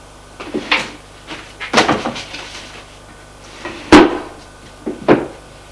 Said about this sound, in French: L'éditeur met le cahier dans son tiroir.